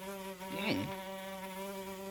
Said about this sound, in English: What do you think that fly was thinking as he landed on Vice President Pence's head? He was looking for a buzz.